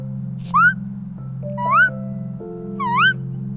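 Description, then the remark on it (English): A child's voice imitates a bird with three squeaky, upward-sliding chirps, evenly spaced about a second apart, over a steady low background hum. “Like a squeak and a chirp mixed together.”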